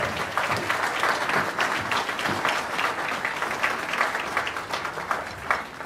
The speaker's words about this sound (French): Mesdames et messieurs, on accueille une vraie chère. Une chicha venue des plaines avec son violoniste. Elle est là, on l'applaudit bien fort.